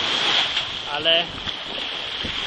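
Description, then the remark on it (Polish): Steady wind and sea noise roar across an open shoreline, a constant rushing hiss with gusts buffeting the microphone, and a brief voiced sound rising midway. “Ale mogę tylko wracać, bo dalej już nic nie ma. Tylko morze.”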